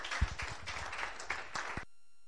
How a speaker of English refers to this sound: Should we give her a round of applause as she comes?